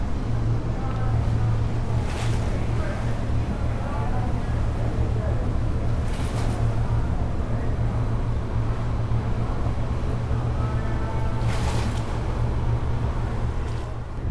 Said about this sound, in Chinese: 对，现在就是走到这个叫什么维港旁边，然后在天星码头旁边，然后我正对面呢是香港的IFC， 就是国际金融中心。哇，这个声音真的比想象中的要吵哎！看看能不能录到一点点水的声音。